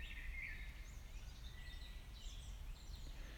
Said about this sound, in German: Vielleicht die Augen schließe oder einfach den Blick schweifen lasse. Und den Vogelstimmen zuhöre.